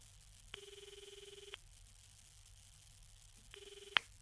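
A telephone rings, one full ring followed after a pause by a shorter second ring that cuts off with a sharp click, as if the handset is lifted.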